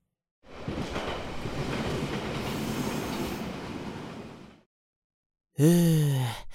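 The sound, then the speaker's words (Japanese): A train that is not crowded today rolls along the rails with a steady rumble and clatter for about four seconds, then stops; after a short pause comes a brief, bright tonal whine that slides downward. “今日の電車は混んでなくてよかった。”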